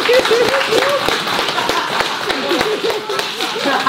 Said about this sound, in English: So a round of applause